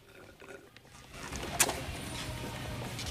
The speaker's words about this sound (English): Stifler slurps his drink.